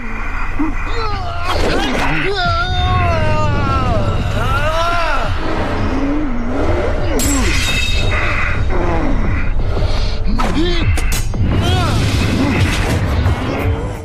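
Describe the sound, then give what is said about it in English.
A voice imitates a film character's heavy, exaggerated breathing, accentuated in the film's sound design: loud, raspy huffs and strained groaning tones running almost continuously for about fourteen seconds, with no clear words. “And one of the noises they go for is his breathing.”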